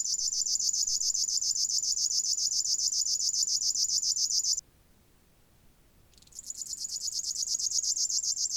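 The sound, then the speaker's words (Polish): A river warbler's fast, metallic buzzing song of rapidly repeated syllables, loud, runs continuously, pauses briefly, then resumes with the same insect-like rattling trill. “Sylaby są ponadto wyższe i ostrzejsze niż u brzęczki, przez co głos strumieniówki brzmi bardziej metalicznie.”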